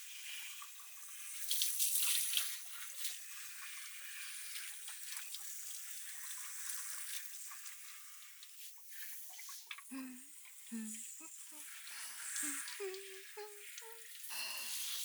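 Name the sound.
shower water rinsing hair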